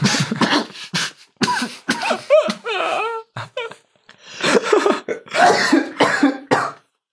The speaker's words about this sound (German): So klingt es, wenn sich ein Zauberer an seinem Bier verschluckt, aber ich habe nicht einen Tropfen verschüttet dabei.